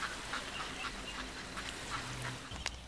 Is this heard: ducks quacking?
yes